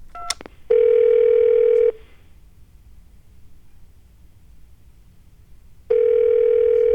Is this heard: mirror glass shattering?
no